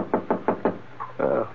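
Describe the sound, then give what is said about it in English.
Four firm, evenly spaced knocks on the wooden door of someone's room, fairly loud, followed by a brief muffled sound and a short burst of indistinct vocal noise. “I must have dozed off, because it took me a while to realize that the sound I heard was a knock on my door.”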